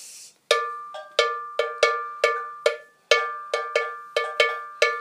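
A metal bell plays the bell part of an old traditional tune from the Ashanti region of Ghana, struck in a bouncy repeating pattern: about a dozen bright, ringing strikes with short decays, some notes quicker than others, played alone with no talking.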